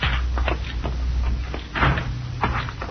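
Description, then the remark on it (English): A back door is opened and shut, with a few knocks and scrapes of handling, set against a steady low hum and no talking. “Let's use the back door, Cisco.”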